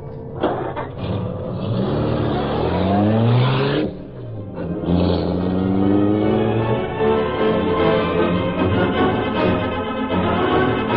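car engine accelerating away

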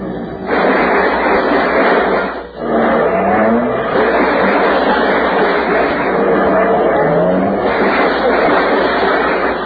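car engine running

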